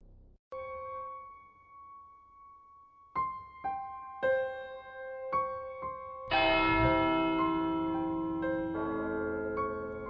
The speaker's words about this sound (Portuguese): Augusto ouviu ecoar das 12 badaladas ao passar rapidamente pela Igreja da Matriz